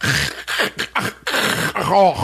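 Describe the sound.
A voice imitates loud, irregular, ugly snoring that is not even or consistent: a few ragged, rasping bursts of uneven length, fairly loud, with rough breathy noise and a strained throaty tone.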